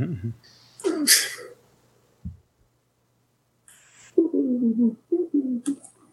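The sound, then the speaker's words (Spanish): A single sharp, breathy cough bursts out, followed by a short low thump and a pause, then a person starts talking. “Como es cuando acabo de toser ahorita.”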